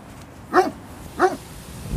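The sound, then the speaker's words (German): A dog barks twice, two short, clear woofs spaced about half a second apart, against a quiet background with no one speaking. “Ich spreche jetzt mal mit dem Hund.”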